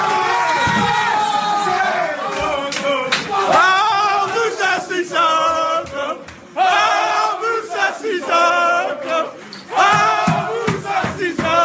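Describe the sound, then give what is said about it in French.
Tottenham Hotspur (Spurs) players celebrate wildly in their dressing room after reaching the Champions League semi-finals against Manchester City, a group of men shouting and chanting together at full volume, voices overlapping in raucous, rhythmic bursts with only brief dips between cheers. “Et c'était donc le délire dans le vestiaire.”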